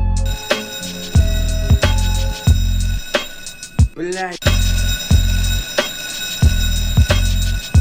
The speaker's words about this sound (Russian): Блядь, звонит будильник, сон с приставкой в лице. Бля, ебучий будильник.